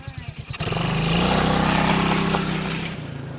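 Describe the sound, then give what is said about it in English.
A small four-wheeler ATV engine putters at idle, then revs up into a loud, steady drone, before easing off slightly at the end. “He got an itch for motorsports since getting a four-wheeler for Christmas last year.”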